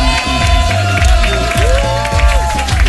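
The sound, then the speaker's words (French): An audience at an Énergie show applauds a singer steadily, a dense patter of clapping with some cheering, mixed with loud music carrying a sustained melodic line and bass throughout. “Celui que vous applaudissez maintenant, parce que tout le monde va l'applaudir.”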